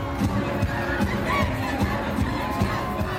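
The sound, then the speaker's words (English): A large packed crowd roars and shouts continuously at a big live concert by an American band in the Black Sea resort city of Batumi, Georgia, a dense wall of cheering voices with steady thumping beats pulsing underneath. “In Georgia's resort city of Batumi, on the Black Sea, a packed crowd at a recent concert is watching the American band”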